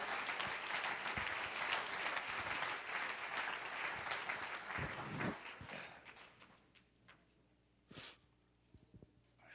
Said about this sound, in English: Somebody give Him a hand clap of praise if you believe that.